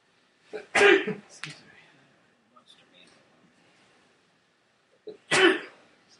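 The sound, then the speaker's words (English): Two loud sneezes about four seconds apart, the first trailed by a short extra burst, with only faint background rustle in the quiet gap between them. “Bless you.”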